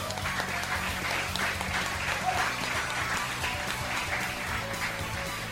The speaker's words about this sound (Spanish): Pido un gran aplauso para él.